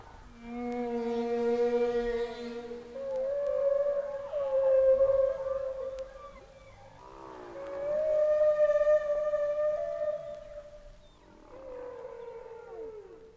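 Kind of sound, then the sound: animal, humpback whale song underwater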